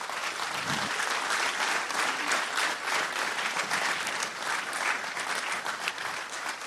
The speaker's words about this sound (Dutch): In Jezus' naam zullen we deze mensen een groot applaus geven.